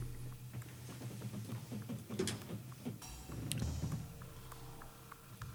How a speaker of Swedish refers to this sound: Dörren går igen.